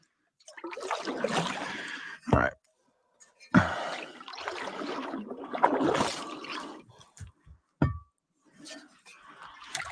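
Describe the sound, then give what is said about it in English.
Irregular bursts of trickling and splashing water falling right onto a person, some running down their pants, come and go over ten seconds, broken by a few sharp thumps and some heavy breathing or gasps. “Dude, why do I feel like I'm like way too big for this, and the water's like right fucking on me.”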